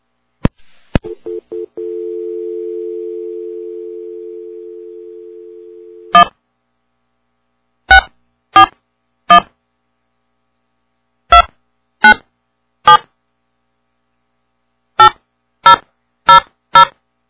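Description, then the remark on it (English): A couple of clicks, then a steady telephone dial tone hums for about five seconds before keypad presses beep in short, evenly spaced clusters, about ten tones in all, clear, with no talking, as another phone line is added to a call. “I'm going to add the other phone line on.”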